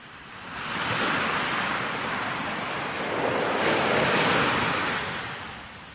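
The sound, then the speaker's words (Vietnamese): Ocean waves wash steadily onto a sandy beach, a broad hissing surge that swells, eases slightly, then rolls in again, with no voices. “Tầm quan sát luôn mở rộng 180 độ, cơ động trên xe gắn máy, hết trên đường lộ, lại băng băng trên những bờ cát tràn sóng dỗ.”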